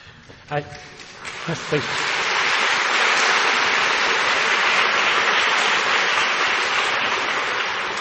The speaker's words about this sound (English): save some more of your applause.